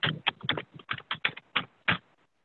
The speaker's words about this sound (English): Yeah, I think the heavy typing is back.